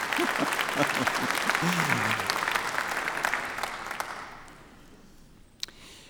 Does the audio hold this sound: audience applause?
yes